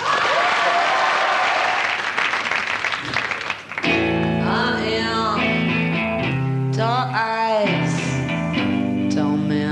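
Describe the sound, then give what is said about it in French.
A loud burst of TV studio audience applause for a grunge band's first French TV appearance, dense rapid clapping for about four seconds, then cut off as the band launches into loud music with sustained tones. “Pour leur première télé française, ovation s'il vous plaît”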